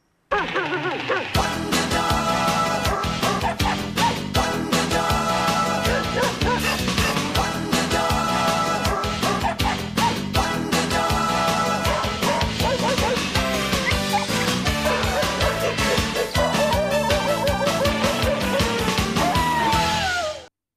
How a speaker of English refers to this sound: It was on Saturday nights at 7 p.m. after the news, and it was on for more than a decade. And kids would stay up and watch it if their parents let them. And this was the theme song.